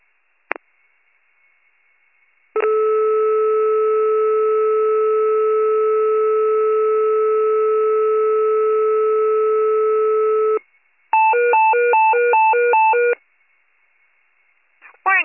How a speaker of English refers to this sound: Maritime Open Receivers, 1810 Pager Test, stand by for siren test.